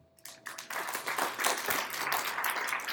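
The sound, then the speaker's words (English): An audience breaks into applause, a dense, steady wash of many hands clapping that swells quickly after a brief quiet start and holds at a lively level throughout. “How about an applause?”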